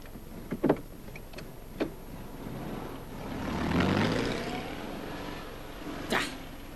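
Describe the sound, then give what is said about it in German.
A few short clicks and thumps, then a car engine swells and pulls away, its pitch sliding down as it recedes. No one speaks. “Weg sind sie. Ich muss wissen, wohin die Kerle fahren.”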